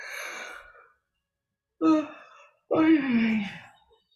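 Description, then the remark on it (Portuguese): A deep breath drawn in, then two long voiced sighs with a moaning, stretching quality, fairly loud, separated by a short pause, as a person breathes deeply and stretches to wake the body. “Fazendo uma respiração profunda, a gente vai voltando, espreguiçando.”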